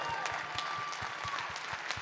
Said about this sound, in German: Applaus.